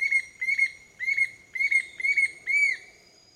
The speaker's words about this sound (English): Finally, a bright-rumped attila calls from its perch hidden deep in the canopy. The attila will repeat its maniacal phrases until well after sunrise, reminding us again and again that it's morning in Costa Rica.